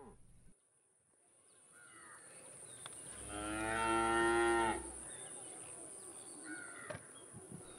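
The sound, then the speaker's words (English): A cow lets out one long, loud moo lasting about two seconds, while faint bird calls and a steady insect hum fill the background. “Like many small-scale farmers, they were facing hard times, and eventually, Jack's mother suggested, reluctantly, that he should take their prize cow to market and use the proceeds to buy new seeds and animals.”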